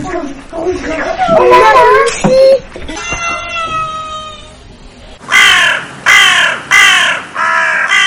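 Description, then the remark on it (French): A large, all-black crow with a black beak caws loudly, a harsh series of calls with three strong, evenly spaced caws at the end, with a child's voice talking early on. “La grenouille, elle est toute noire, grande et grosse, avec le bec noir. Et elle a la tête toute noire aussi.”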